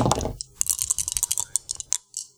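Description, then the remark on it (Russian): Four six-sided dice clatter and rattle together, then tumble across a hard surface in a quick burst of sharp clicks that taper off after about two seconds, landing on 4, 5, 5 and 1. “Здесь вот ставишь как кубики, шкварки друг об дружку, ибо бросай их.”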